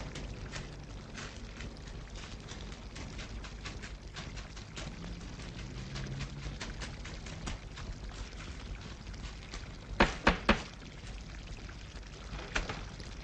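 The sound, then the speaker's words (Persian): Three sharp knocks on a door in quick succession over a steady rushing hiss, followed a couple of seconds later by one softer knock. “دار میزنن، مگه نمیشنوی؟”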